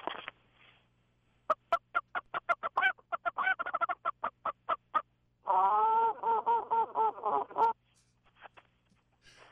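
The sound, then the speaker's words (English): A hunting game call mimics a chicken, giving a quick run of sharp, evenly spaced clucks followed by a louder, rattling cackle, clear with no one talking. “The Kentucky Fried Chicken call there.”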